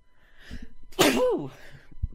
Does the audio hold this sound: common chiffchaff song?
no